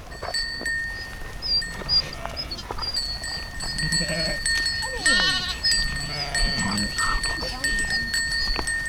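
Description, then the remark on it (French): A flock of ewes being fed bleats over and over, several overlapping calls rising and falling, with a steady high ringing tone and general barnyard bustle underneath. “S'occuper de brebis, faire manger des brebis, c'était...”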